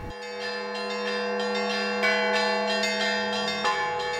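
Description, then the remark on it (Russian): Church bells ring out steadily in a noisy big city, their strikes overlapping into a sustained, resonant wash of tones, with fresh strikes landing every half second or so. Loud, with no voices. “Колокольный звон, словно проповедь о вере и спасении, о мире и любви, разносится в шумном мегаполисе.”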